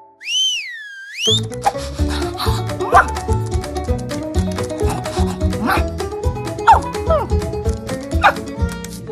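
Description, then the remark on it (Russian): A dog barks several times at irregular intervals over busy, upbeat music, following a brief swooping whistle at the start. “Собака же хищник!”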